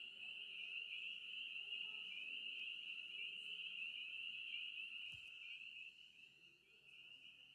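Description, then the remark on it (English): A dense chorus of spring peeper frogs fills the night air. Their high, shrill peeps blend into one continuous ringing trill that holds steady throughout, with no one talking. “The spring peepers, they're called, make an amazing, hopeful sound, and if you listen carefully in that so still, you might hear them.”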